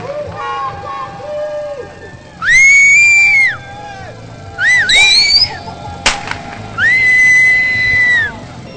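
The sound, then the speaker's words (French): Loud, drawn-out shouting from prisoners at prison windows rises in three long bursts over a murmur of background voices, echoing, with a sharp firework crack between the last two cries. “Il y a une personne qui crie ça au micro, et à chaque jet de feu d'artifice, on entend des gros cris qui viennent des fenêtres.”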